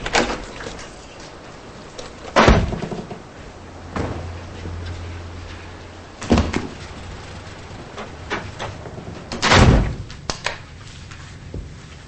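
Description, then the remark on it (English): A motel room door opens and thuds shut with a few sharp knocks and clunks spread out over several seconds, with a low hum briefly in the background and no talking. “Later, they enter a motel room.”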